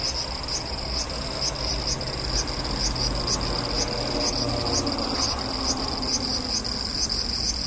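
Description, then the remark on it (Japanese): A cicada that has been climbing steadily upward, now about 2.5 metres high, fills the whole stretch with shrill, steady buzzing, pulsing in a quick regular rhythm over a faint low outdoor rumble, with no voices. “さっき僕の目の前、頭の高さぐらいにいたセミが、もうさっきからどんどんどんどん寄り登ってね、もう2メートル半ぐらいのところに来ましたね。”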